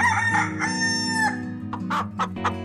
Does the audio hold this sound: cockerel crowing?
yes